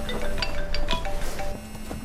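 A phone rings with an electronic ringtone, steady tones overlaid with short bright melodic blips, moderately loud for about two seconds with no talking.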